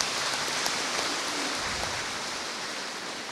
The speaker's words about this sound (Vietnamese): Nhân dịp này tôi xin cảm ơn sự cộng tác của các cha để làm nên những thành công trong công việc mục vụ của giáo phận Hải Phòng. Chúng ta có tràng pháo tay để cảm ơn.